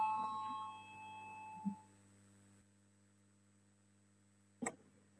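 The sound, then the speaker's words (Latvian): A parliamentary voting bell rings before a vote on a proposal and fades over about two seconds, leaving a steady low hum, with a soft knock and a sharper click later. “Lūdzu, zvanu balsosim par 5. Frakcijas saskaņa iesniegto priekšlikumu.”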